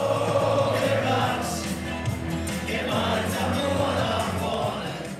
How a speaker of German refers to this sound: Die Fußballfans singen im Chor. Mit grün-weißen Schals und Shirts stehen sie im Block 2, 4 und 12. Sie schwenken Fahnen mit dem Kleeblatt, dem Vereinswappen der Spielvereinigung Greuther Fürth, verfolgen die Mannschaftsaufstellung